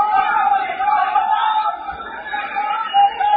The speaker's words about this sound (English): This is a complete mess. You can see, like, just everyone just running around. They're screaming, fuck you, to the police.